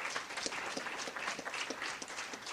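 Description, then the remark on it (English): A convention audience applauds first-time attendees steadily, many hands clapping at once in a dense, even patter that fills the space for a few seconds without any talking. “Let's give a round of applause for our first-timers.”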